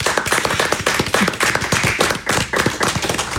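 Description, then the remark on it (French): An audience applauds steadily: a dense, continuous crackle of many hands clapping at once, fairly loud, with individual sharp claps standing out in the mix and no voices over it. “Très bien, on peut les applaudir.”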